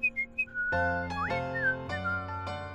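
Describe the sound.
A man whistles a tune: three quick, bright notes, then a sliding, wavering melody carried over a loud, steady, droning musical backing. No one speaks.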